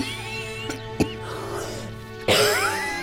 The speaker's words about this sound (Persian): مادر جون این سرفه ها چیه؟ باید بریم پیش طبیب.